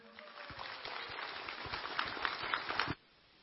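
An audience breaks into steady applause, many hands clapping in a dense, crackling patter that builds slightly for about three seconds, then stops abruptly.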